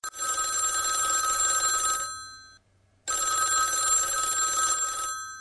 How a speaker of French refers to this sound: Voilà un appel.